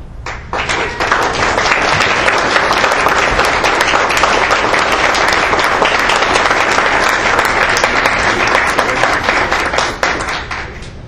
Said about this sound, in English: This is not my doing, it's my teachers, my students, and the support of the parents. So the applause goes to them.